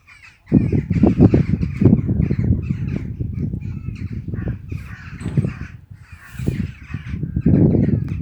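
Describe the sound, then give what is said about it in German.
Birds calling steadily, a dense run of harsh, repeated cries that begins after a brief quiet moment and carries on without any talking; the first birds of the morning starting to sing around 7:30 am. “Da hatte der Tag dann langsam auch schon begonnen und die ersten Vögelchen hatten schon zu zwitschern begonnen.”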